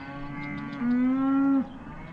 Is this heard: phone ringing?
no